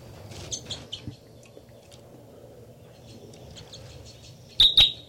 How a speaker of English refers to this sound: Start recording now. This is the song of bird 318.